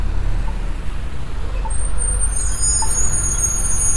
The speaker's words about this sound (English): There's a bus waiting to turn left onto Ewing.